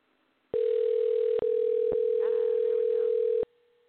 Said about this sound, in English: My guest tonight is Richard Mogg, and the phone should be dialing.